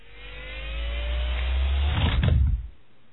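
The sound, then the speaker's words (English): An X-Wing's ersatz thrust engines in a flight simulator ignite with a deep rumble that swells over a rising whine, building to a loud roaring burst before cutting off abruptly into near silence. “Kell strapped himself into his simulator seat and flipped the switches, igniting his X-Wing's ersatz thrust engines.”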